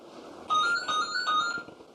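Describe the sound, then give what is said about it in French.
A phone rings with a bright electronic melody in repeated bursts over a low background hum, clear, with no one speaking. “Il y a ton téléphone qui sonne.”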